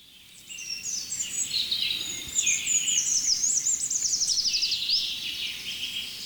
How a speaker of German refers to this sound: Jetzt fängt der Buchfink wieder an. Das ist der neue.